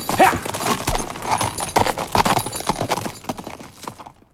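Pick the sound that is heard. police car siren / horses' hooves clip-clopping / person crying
horses' hooves clip-clopping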